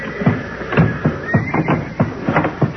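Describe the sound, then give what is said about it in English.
Old and sick horses shut in a stall in a building being set on fire neigh over and over, with shrill, quavering whinnies overlapping in quick succession against a steady background hiss. No one speaks. “They're beginning to yell good now.”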